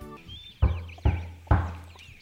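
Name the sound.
knocking on a door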